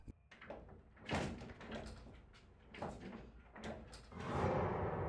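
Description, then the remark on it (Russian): A spring-loaded door swings back shut, with a series of knocking thuds and rattles as it settles, ending in a louder, noisier rush of sound; no one speaks. “Дверь спружинила и двинулась в обратную сторону.”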